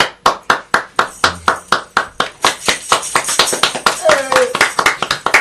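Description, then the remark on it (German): One person claps alone in a steady, even rhythm, then a few more join in and the claps grow denser and overlap. A brief voice is faintly heard near the end. “So, wieder ein Mann-Applaus.”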